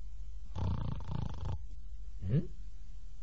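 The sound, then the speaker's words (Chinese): A voice imitates the loud snoring of a fat monk asleep on a rock in a forest: a long, rumbling, rattling snore for about a second, a pause, then a shorter rising snort-like inhale, fairly loud with no talking. “他在这坐着，听着旁边有人打呼噜。”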